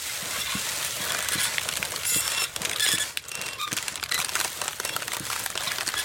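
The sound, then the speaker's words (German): Crinkly plastic rustling in a steady, pulsing rhythm, with bright crackles and regular soft thumps repeating through the whole stretch, fairly loud and continuous with no voices. “Ja, das hört sich wirklich für mich wie den gleichen Trio und ein bisschen mehr Plastik tut, ne, so rascheln dran, bis du so ein Rhythmus, was so ein...”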